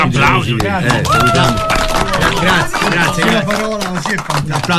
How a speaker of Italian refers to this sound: Buongiorno, bentrovati. Un applauso.